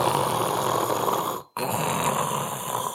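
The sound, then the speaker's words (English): Loud, forceful, rapid inhales through the nose with a harsh, snore-like rasp, two long noisy pulls split by a brief pause, with no talking. “So if you're breathing through your nose at a slow rate, it's almost impossible to make this sound.”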